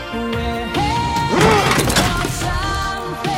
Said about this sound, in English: At Mia's, L slams the page onto a desk, shaking with anger.